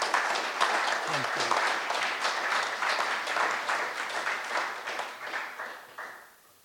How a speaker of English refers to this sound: Give him another big round of applause. Thank you.